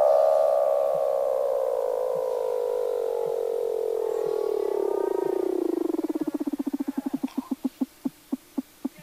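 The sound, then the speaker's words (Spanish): A Weddell seal calls underwater in Antarctica: a long, loud tone slides steadily downward, then breaks into a quickening train of sharp pulsed clicks. No one speaks. “En la Antártida existen diversos tipos de focas, tales como la foca de Weddell...”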